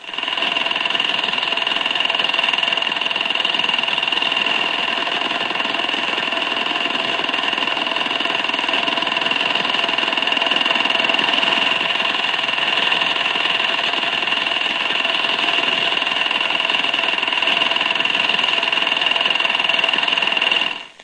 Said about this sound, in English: An acoustic minesweeper. This is usually a strong, stuttering signal which may be picked up at ranges as high as 20 miles.